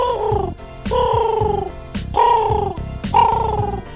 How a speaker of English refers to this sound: It was Pino the pigeon. Pino is Robbie's friend. He is a carrier pigeon, and he delivers letters to Robbie from children all over the world.